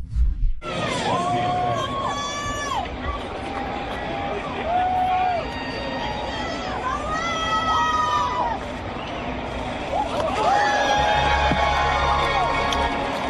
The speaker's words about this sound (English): And that is a wild pitch. That is to the backstop. Everybody cheering. Yeah, that is not a good pitch.